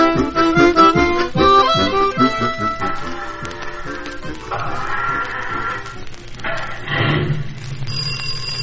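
A telephone bell rings at the Wallet and Bobble Garage in Gasoline Alley, in bright, rapid repeated bursts, mixed with a busy layer of other tones and a low, steady rumble underneath that continues after the ringing fades.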